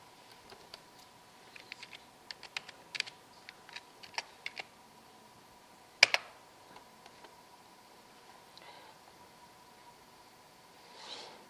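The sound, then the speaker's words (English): Quiet, irregular clicking of keys on a computer keyboard, a burst of typing followed by a louder clack near the middle and a few scattered taps afterward, with no voices. “I keep typing in the wrong place.”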